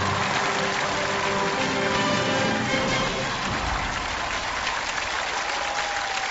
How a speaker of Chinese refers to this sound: 掌声有请雷站长为我们开讲。